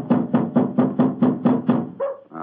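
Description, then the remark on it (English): A quick run of about eight loud, evenly spaced knocks on the wooden door of an elephant house, followed by a brief different sound at the end; no one speaks. “Why in thunder doesn't the keeper open the door?”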